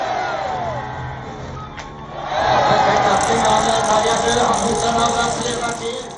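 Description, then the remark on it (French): A biathlon crowd murmurs steadily, then at about two seconds swells into a loud, sustained roar of cheering and hurrahs as a shot hits the target, holding for several seconds before easing slightly. “À chaque balle dans la cible, le public lance des hurrahs.”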